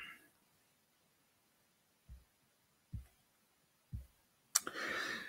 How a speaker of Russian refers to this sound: То, что он планирует подписать. Все вот это вот. Сейчас листаю.